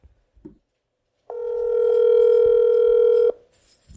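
A telephone tone sounds alone as a phone call is placed, a single steady electronic hum lasting about two seconds, fairly loud and clear, cutting off abruptly, with a few faint clicks before it.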